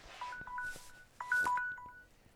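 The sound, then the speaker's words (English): A mobile phone rings with a short electronic tone pattern, two quick bursts of beeping notes, with some faint rustling in the background. “he's practically glued to his phone all weekend, answering calls from vendors, volunteers, and others, almost on cue.”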